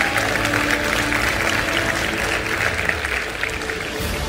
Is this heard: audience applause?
yes